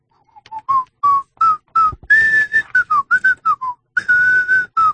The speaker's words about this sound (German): Und da pfeifen Sie revolutionäre Lieder, die Marseillaise? Na klar, Freiheit, Gleichheit, Brüderlichkeit.